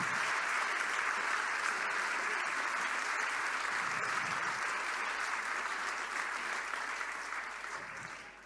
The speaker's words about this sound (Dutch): Zullen we allemaal nog even een heel groot applaus geven